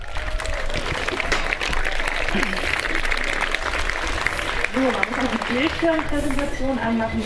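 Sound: audience applause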